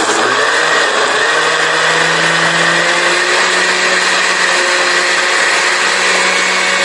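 A blender runs steadily and loudly, whirring as it purees cilantro, recado negro, onion, chiles, peeled cucumber, lemon juice, olive oil and water, with a constant motor hum and a dense, grinding wash of sound throughout, no voices present.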